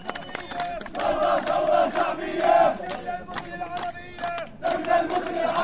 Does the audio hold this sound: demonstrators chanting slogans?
yes